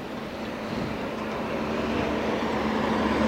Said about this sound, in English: Traffic on the bridge, not so bad. Usually quite bad.